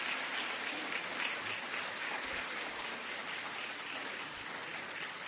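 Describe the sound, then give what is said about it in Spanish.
Steady applause from an audience as the Centro Nacional de Rehabilitación Psíquica Doctor Alberto Martínez Visca is invited to the stage, a dense wash of many hands clapping that holds evenly for several seconds at moderate loudness with no voices over it. “Aplausos, los invitamos al estrado.”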